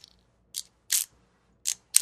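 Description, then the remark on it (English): Short bursts of mechanical whirring and clicking from a toy's geared blades spinning as the toy is pushed, the blades directly geared to its motion, four quick hissy spurts separated by brief pauses, with no talking. “Like that's, when you hear the noise, they're spinning.”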